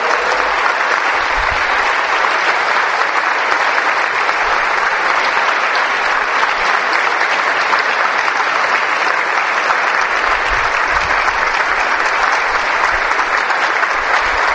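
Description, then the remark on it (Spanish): Loud, sustained applause from an audience, given to the Lord Jesus, a dense steady wash of clapping hands lasting the whole stretch with no voices standing out. “Si tú crees en el Señor Jesucristo, que vive, que está resucitado, le vas a dar un fuerte aplauso al Señor Jesús.”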